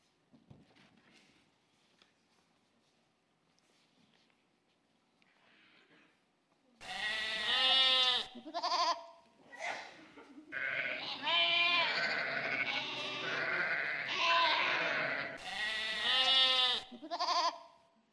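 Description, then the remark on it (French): Sheep bleat loudly, several overlapping wavering baas in bursts after a few quiet seconds, with a chorus of calls in the middle and another long bleat near the end; sheep kept by shepherds at night in the region of Bethlehem. “Dans cette même région, il y a des bergers qui gardent leurs moutons pendant la nuit.”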